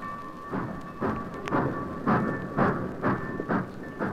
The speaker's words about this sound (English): Britt watched as his father's train moved out of the station.